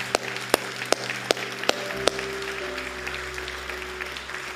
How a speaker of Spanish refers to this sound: ¿Por qué no damos unas palmas bien fuertes?